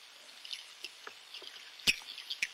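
Faint, scattered duck-like quacks from an underwater Navy recording played on a tape recorder: short, nasal squawks and a few sharp clicks popping up irregularly over a steady low hiss, with no voices.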